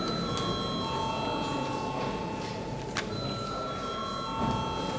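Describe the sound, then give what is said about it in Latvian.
A parliament voting bell rings continuously for the whole stretch before deputies vote on a draft decision appointing a judge to the Riga district court, a steady, shrill electric tone with a buzzing edge and one sharp click partway through. “Lūdzu zvanu.”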